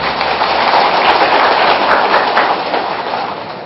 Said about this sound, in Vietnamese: Rồi xin cho một tràng pháo tay.